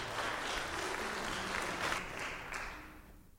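A crowd claps steadily, a dense wash of many hands applauding at moderate volume before tapering off slightly at the end.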